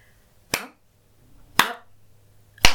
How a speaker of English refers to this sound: And that's the second noise we will be using, a clap. And with every clap, you are going to feel yourself getting pushed back.